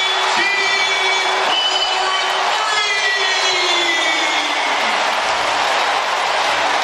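A packed arena crowd at an NBA game roars in a loud, sustained burst of cheering for a made three-pointer, with whistles and whoops rising over the dense wash of noise that holds steady throughout.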